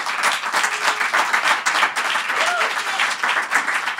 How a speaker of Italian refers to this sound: Ci siamo adattati e devo ringraziare gli ascoltatori che hanno tagliato panettoni. Insomma, sono sempre fantastici. Se vi va, gli facciamo un applauso se ci stanno ascoltando.